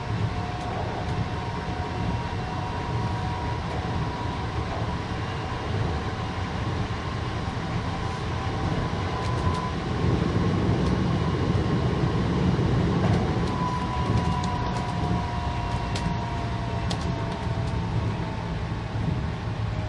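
A train running toward Tsukaguchi station, heard from inside the car: a steady, loud low rumble with a faint motor whine riding on top, continuous throughout with no voices.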